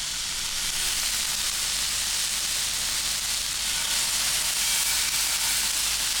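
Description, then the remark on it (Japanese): Lean red venison sizzles steadily on a hot grill, a dense, bright crackling hiss that holds at an even loudness throughout with no voices. “まさかね、リスナーの皆さんが聞いてらっしゃるところで、うん、鹿肉を焼くとは夢にも思ったことがなかった。”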